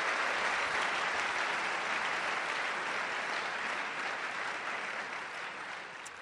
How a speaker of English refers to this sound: Ladies and gentlemen, please, will you give a round of applause to Professor John Lennox tonight.